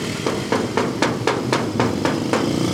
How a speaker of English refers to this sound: We knocked, waited, and waited, but we could see no one had been here for a long time.